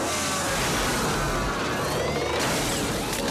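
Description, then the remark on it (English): A police car forced off the road crashes down a bank and lands upside down in a field, a loud, continuous rush of rumbling, grinding noise with whooshing, whining overtones that runs unbroken for several seconds, with no voices. “They force the police car off the road, and it crashes down a bank and lands upside down in a field.”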